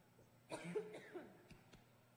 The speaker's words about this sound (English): As long as I stop coughing.